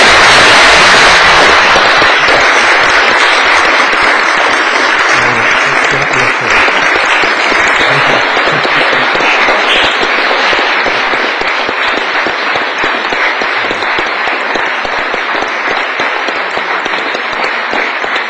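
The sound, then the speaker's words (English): Sustained audience applause for Justice Wilcox fills the whole stretch, a dense, steady wash of many hands clapping at a fairly loud, even level with no voices rising above it. “Why don't we applaud him? We've applauded everybody else.”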